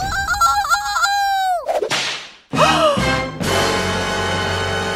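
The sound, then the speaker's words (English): A sharp whip crack snaps out midway, preceded by a honking, wavering tone and a whooshing swish, then followed by a sustained noisy rumble. No one speaks. “And using tail like crazy whip weapon?”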